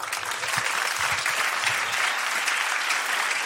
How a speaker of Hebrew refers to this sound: תודה רבה רבה רבה לעורך הדין היקר הזה. הרבה הרבה כפיים.